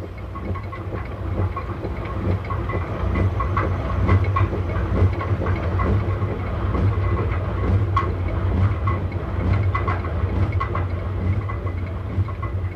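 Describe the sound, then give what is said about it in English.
A steady roar of a stream turning the millstones of water mills at Siklis, at 8,000 feet, where the stream drops 4,000 feet and 30 or 40 mills grind night and day; a deep continuous rumble with scattered knocks and clatters on top, loud and even, with no voices. “You are there when you hear the roar of the stream turning the millstones of Siklis.”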